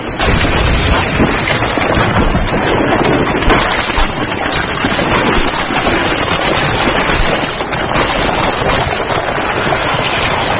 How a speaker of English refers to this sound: As the lava hits the water, it's burning at over 1,000 degrees Celsius. Cold currents from the deep send its temperature plummeting, releasing steam with explosive consequences.